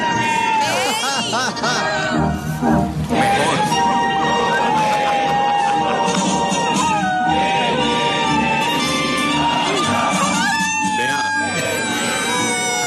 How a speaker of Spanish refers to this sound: Perro del ejército se hace viral por cantar el himno nacional cada vez que suena. No, ¿cómo así? Sí, un perro intérprete.